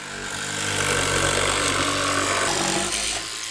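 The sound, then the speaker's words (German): A power drill whirs steadily into wood for a few seconds, drilling a small hole for one of the 150 windows of a model of the MS Leonberg, a continuous motor drone with gritty boring noise, rising in at the start and easing off at the end. “Zuerst bohrt er ein kleines Löchlein ins Holz und dann geht's gleich weiter.”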